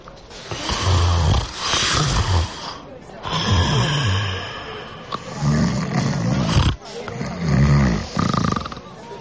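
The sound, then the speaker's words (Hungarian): Loud snoring from a person asleep in a small, airless compartment: four long rasping breaths with short pauses between them, each one rough and rumbling like a growl. “már horkol.”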